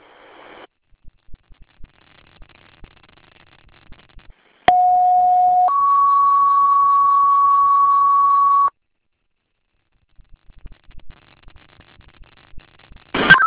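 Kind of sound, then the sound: signal or alarm, fire dispatch alert tones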